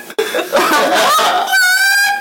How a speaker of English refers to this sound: Chickens are in the house at once!